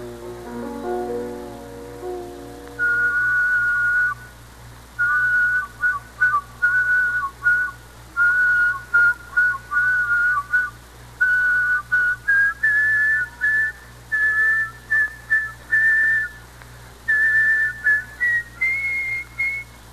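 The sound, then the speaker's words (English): A single whistler carries two simultaneous, independent melodic lines in close harmony, phrased in short, clipped bursts that climb gradually. The whistling is clear, preceded by a brief low sustained tone. “But counterpoint whistling requires two completely independent whistles in second, third parts, in fact, all of the intervals.”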